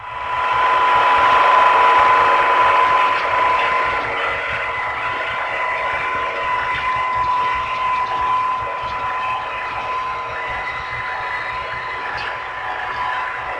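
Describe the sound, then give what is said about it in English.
A steady, high-pitched propeller whine from a fast PT boat, holding one sharp tone over a broad churning hiss for the whole stretch, fairly loud, with no voices. “Our own PT boats have a high-pitched whine which makes them easy to identify.”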